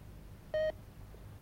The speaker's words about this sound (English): He pulls himself upright and stumbles towards the buzzer. No. Oh, oh, oh, oh. He bashes at the buzzer.